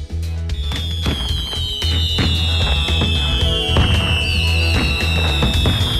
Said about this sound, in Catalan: sí que ens hem ambientat, amb l'ambient pirotècnic. Jo crec que sí, que això li ha donat un tret diferencial i definitiu.